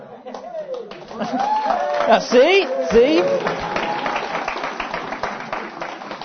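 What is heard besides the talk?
audience applause and cheering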